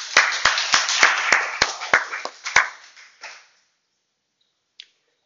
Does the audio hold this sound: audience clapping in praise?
yes